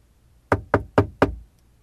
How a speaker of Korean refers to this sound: 나는 문을 당겼네. 안으로 걸려있었네. 노크를 했네. 응답이 없었네.